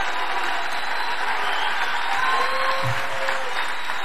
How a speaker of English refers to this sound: Dude, listen to these mindless drones. 1 year ago, they were cheering like this for no new wars. They were cheering, cheering, cheering for no new wars.